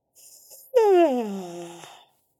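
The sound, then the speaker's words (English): A single loud, drawn-out yawn made while turning the head to one side: a soft breathy inhale, then a voiced sigh that starts high and slides steadily downward in pitch before trailing off into breath. “Turn the head to one side and the other, yawning on the turns.”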